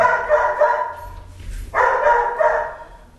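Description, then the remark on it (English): A dog barks loudly in two excited, drawn-out bursts separated by a short pause, with no one speaking. “The dog is the welcoming committee. Every person comes, the dog welcomes them.”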